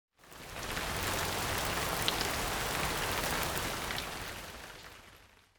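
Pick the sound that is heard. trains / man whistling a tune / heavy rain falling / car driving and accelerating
heavy rain falling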